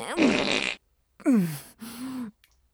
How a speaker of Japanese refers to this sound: くっさいへかぐの禁止。立派な神父さんになるんでしょ。くさいおならに負けないで。